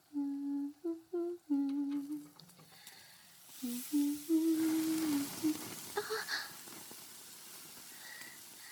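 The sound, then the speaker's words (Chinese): Eggs sizzle in a frying pan in a kitchen with a steady, moderate hiss, while a woman's voice makes drawn-out vocal sounds over it before the sizzling fades out. “煎蛋马上就好了，还准备了你喜欢吃的沙拉。”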